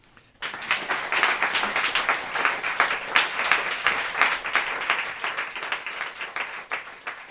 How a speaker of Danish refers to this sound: Det var studenterne på Valkendorfs Kollegium i København, der klappede af